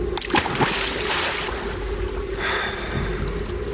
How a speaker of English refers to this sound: Eventually, with a strange calm, Andy picked up our radio, carried it over to the side of the boat, and dropped it into the water.